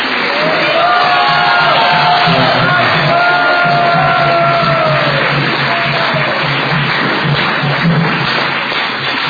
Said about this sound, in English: So you please give her a big round of applause to show your